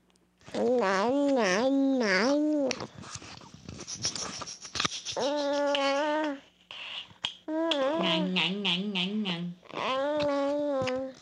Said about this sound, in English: So what makes this babbling? The reason this is babbling is that for the first time we hear sounds that are clearly like consonants and vowels. We have a nya and an ah, okay? And most importantly, those sounds are being alternated in sequence.